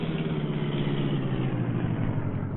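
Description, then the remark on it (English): A car engine rumbles steadily, a low continuous drone with a slight rise in revs, as the car stops and quickly turns around. No voices are heard. “Stop and turn around, quick.”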